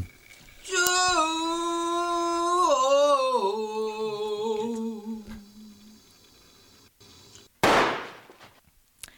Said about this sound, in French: Alors, des coups de feu sur cette jolie chanson, parce que en fait, c'est le film raconte comment Kim Ki-duk prépare son propre suicide. Donc, dans la bande-annonce, on le voit s'entraîner avec un pistolet. Voilà. Un beau pistolet, d'ailleurs.